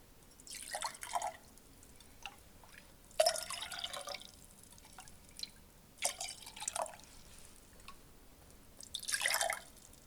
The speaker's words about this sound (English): Dip the quarter cup measuring cup in the water and pour the water into the third glass. Put another quarter cup of water in this glass. Use the measuring cup to put 3 scoops of water in the fourth glass and 4 scoops of water in the fifth glass.